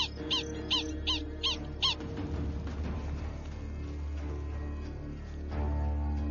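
Five sharp, high-pitched alarm calls from prairie dogs ring out in a quick, even series as a hunting badger approaches their colony, then fall silent, leaving a steady low rumble.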